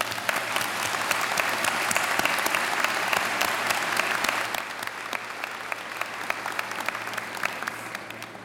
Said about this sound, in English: Let's celebrate the hard work and discoveries of all the researchers among our 2022 graduates with a round of applause.